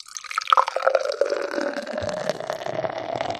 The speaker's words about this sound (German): Also ich schütze extra mal so ein, dass ihr es schön hört, ne? Oh, und die Aromen, die fliegen ja schon durch den Raum. Ja. Schäumt aber auch wieder ordentlich.